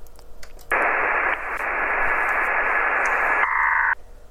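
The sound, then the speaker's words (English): A loud burst of shortwave radio interference (QRM) from an adjacent signal during an amateur radio contact: harsh, band-limited static hiss with a faint steady whine running through it, abruptly switching on, shifting in tone midway, then cutting off. No voices. “Some QRM from the side.”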